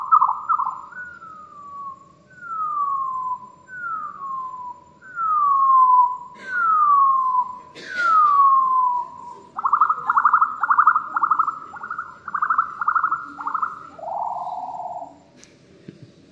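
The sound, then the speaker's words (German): A recording of a bird singing a series of clear, descending whistled notes repeated about every second, then a faster trilling run of rising notes ending in a lower slur, loud with no talking. “Der Vogelgesang, der kann bis zu mehrere Stunden dauern und er weist eine hierarchische Struktur auf.”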